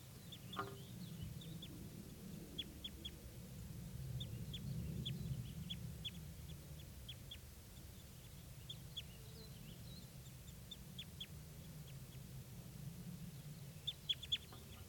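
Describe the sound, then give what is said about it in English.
Small birds, a male and a female foraging in aspens, give short, high chips and calls, scattered irregularly throughout and clustering near the end, over a steady low rumble. The calls are fairly faint, and no one speaks. “These are the birds.”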